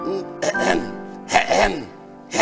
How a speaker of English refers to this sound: …, what are you doing now? Clearing your throat.